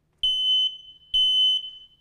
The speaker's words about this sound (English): How many of you have heard that at 2:15 in the morning? Particularly 2:15 in a very cold morning, right? And what it means is your battery needs to be changed and the smoke alarm.